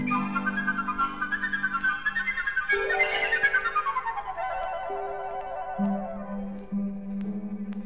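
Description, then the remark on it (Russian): A piccolo flute plays a shrill, piercing melody that climbs and falls in quick runs, carried over steady low sustained accompaniment notes. “Не похожа на нее ее маленькая сестра, флейта пикколо с пронзительным звуком.”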